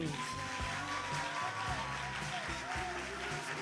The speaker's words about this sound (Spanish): Una de piña, una de melocotón, una de cal, una entonces, de vamos a ver, aplausómetro para melocotón.